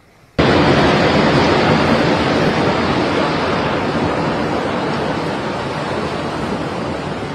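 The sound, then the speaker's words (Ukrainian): A loud, steady roar of storm wind on Corsica, gusting up to 224 km/h, uprooting trees and damaging mobile homes, cuts in abruptly and rushes on without a break, full, easing only slightly toward the end. No voices are heard. “На Корсиці пориви вітру до 224 км на годину виривали дерева з корінням і пошкоджували мобільні будинки.”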